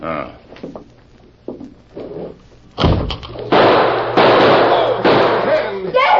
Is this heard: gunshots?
yes